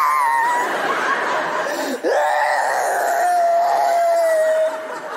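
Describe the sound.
A woman's voice fakes crying: drawn-out, whimpering sobs that waver and glide in pitch, loud, with one brief catch of breath midway and no other talking.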